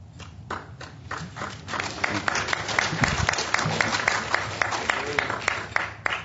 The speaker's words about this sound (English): Applause from the audience, and then rightfully so.